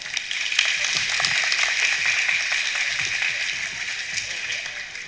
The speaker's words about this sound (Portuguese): Uma salva de palmas.